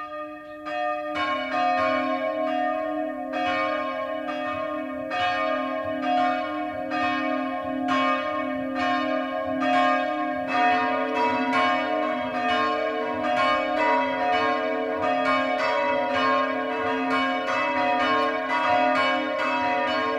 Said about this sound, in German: Es ist 12 Uhr. Das Mittagsläuten kommt heute aus Neunkirchen am Main im oberfränkischen Landkreis Bayreuth.